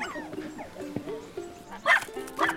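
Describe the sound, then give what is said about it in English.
A pack of mischievous hounds on a dog walk barks and yips in a noisy jumble, high whining cries mixed with two loud, sharp bark bursts near the end. “In this mini episode, we're going on a dog walk with a pack of mischievous hounds.”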